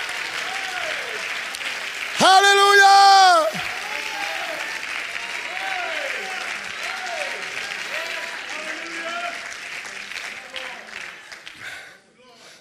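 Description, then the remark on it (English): An audience claps hands in a steady, loud wash of applause lasting about twelve seconds, with voices calling out over it and one loud shout early on, before the clapping fades. “Oh, would you clap your hands?”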